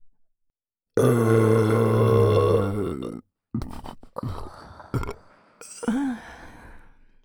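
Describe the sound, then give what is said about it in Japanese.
A long, loud, drawn-out burp close to the mic, followed by a few shorter, rougher belching sounds in quick succession, with no talking. “私も耳元でエロゲップ聞かせてあげます。”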